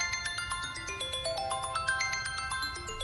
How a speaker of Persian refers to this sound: الان یه لحظه گوشی رو نگه دار، من یه دقیقه تلفن جواب بدم.